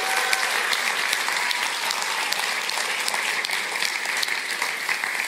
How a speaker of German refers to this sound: Und ich weiß nicht, wie es euch ging, aber ich fand das Theaterstück ja mega, oder? Geben wir mal den Teams einen Applaus, oder?